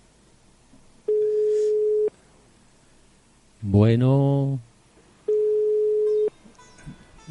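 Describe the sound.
A telephone ringback tone sounds twice down the line as a mobile phone is called, each a steady one-second beep with a long pause between; a man speaks briefly in the gap.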